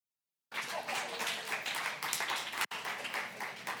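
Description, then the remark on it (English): A crowd applauds steadily, many hands clapping in a dense, continuous patter that holds at an even loudness, broken by one abrupt, brief cut partway through. “We're in a clapping mood today.”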